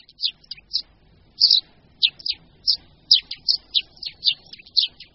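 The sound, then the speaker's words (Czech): Eurasian tree sparrow chirps and song: a steady series of short, high, slightly buzzy chirps repeated in quick succession, moderately loud, with faint background noise. “Ten je slabší, jemnější, a to jak vábení, tak i zpěv, který je jakousi směsící různých tónů.”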